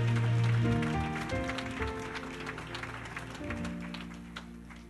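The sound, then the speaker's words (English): Scattered audience clapping runs through the whole stretch, the claps blending into sustained, loud organ-like musical chords that carry on underneath. “Oh, yes, clap more. Clap more.”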